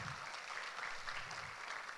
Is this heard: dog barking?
no